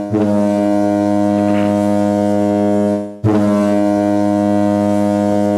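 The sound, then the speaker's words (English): Two long, loud foghorn blasts with a deep, steady droning tone, the first lasting about three seconds, a brief gap, then a second blast continuing to the end. No voices. “But those foghorns, you know.”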